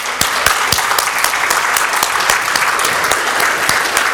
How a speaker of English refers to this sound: Would you take just a minute and stand and applaud for that young lady who got there?